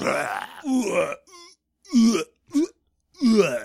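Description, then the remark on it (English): A voice makes a series of guttural, gagging retches and throaty grunts in short bursts, imitating a harsh made-up orc language that sounds like someone about to vomit. “one of my favorite things is the Gith orc language, which is apparently just almost vomiting.”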